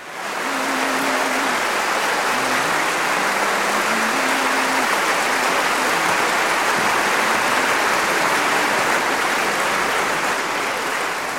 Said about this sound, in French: Et si vous écoutez très attentivement, vous entendrez que sous les applaudissements, le baryton murmure encore la mélodie.